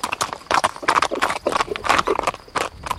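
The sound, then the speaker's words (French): A ridden horse's hooves trot in a steady, brisk clip-clop rhythm, fairly loud, each strike sharp and percussive over about three seconds with no voices. “Angelo poussa son cheval qui prit le trot.”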